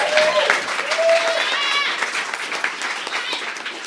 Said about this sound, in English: So they deserve another round of applause. Do it.